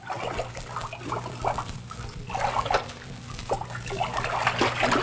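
Water sloshes and splashes steadily at a moderate level, with irregular bursts of stirring and trickling layered over a low hum, and no one speaking; cold water at the bottom of a deep, old abandoned well, about 40 feet below the top.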